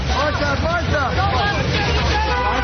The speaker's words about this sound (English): The domestic diva declined to respond to questions yelled to her by reporters as she hustled off to a waiting car.